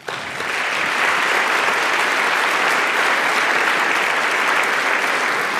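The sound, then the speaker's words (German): An audience applauds steadily, a dense wash of many hands clapping that swells in within the first second and holds at a full, even level throughout, with no voices standing out. “Ich finde, die haben einen Applaus verdient.”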